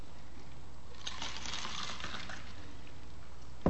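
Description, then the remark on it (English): A drink is poured into a glass, a quiet trickle and splash lasting about a second, followed by a brief soft knock near the end. No one speaks. “let me pour this.”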